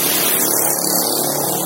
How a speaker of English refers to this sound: Thanks, noisy motorbikes.